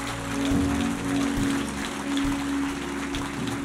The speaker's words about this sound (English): Come on, let's give God a big clap and thank you. Beautiful.